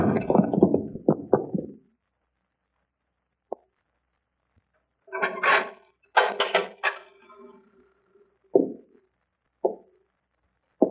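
A cupboard door with no lock is banged shut on a woman amid a flurry of heavy thumps and rattling, followed by a few sharp, isolated knocks spaced out over several seconds as a knife is wedged in to hold it. No voices are heard.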